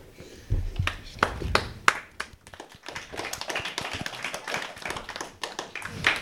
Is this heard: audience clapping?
yes